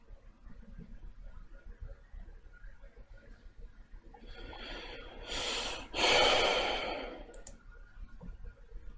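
A loud, breathy snort bursts out after a quiet stretch, a forceful nasal exhale with a brief intake before it, followed by a faint click and then near silence. No one speaks.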